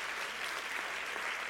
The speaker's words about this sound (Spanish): Si usted quiere aplaudir al Señor, apláudale.